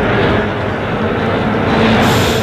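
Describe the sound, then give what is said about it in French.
A metro train rumbles loudly, a dense, steady roar of wheels and machinery with a slight brightening near the end as it comes to a stop. No voices. “Il suffit que je claque des doigts et le métro stoppe sa course.”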